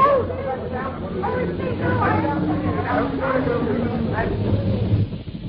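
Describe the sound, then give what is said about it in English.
A delivery lorry's heavy engine rumbles low and steady throughout as it arrives with a shed from Outdoor Buildings Limited, with a babble of several people talking over it, then the noise drops off abruptly at the end. “No, look, here comes the lorry.”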